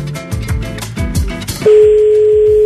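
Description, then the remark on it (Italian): After a brief burst of busy, music-like sound, a loud, steady electronic phone-line tone sets in and holds unbroken to the end, clear, with no one talking. “Oh, sì, questa squilla, attenzione, eccolo, ecco.”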